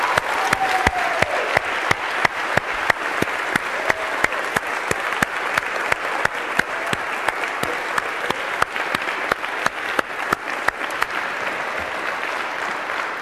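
A crowd claps steadily for over ten seconds, a round of applause for the CS50 course staff who run the course behind the scenes: a dense, even wash of hand claps with sharp individual claps popping out, holding a constant loudness without any voices.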